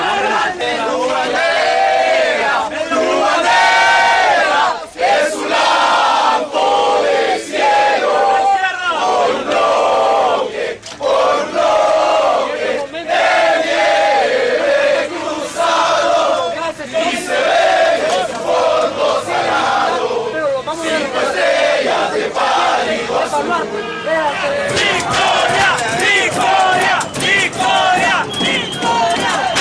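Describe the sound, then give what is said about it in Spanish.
A large crowd of Frente de Resistencia Popular protesters in Honduras shouts slogans in loud, rhythmic unison, voices rising and falling in repeated chants with a few brief pauses, dense and sustained throughout. “Nosotros estábamos aquí manifestándonos tranquilamente, nosotros estábamos gritando nuestras consignas.”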